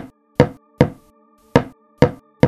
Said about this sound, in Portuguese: Aquilo ainda continuava batendo na porta, em pequenas pausas, de 3 em 3 segundos, mais ou menos.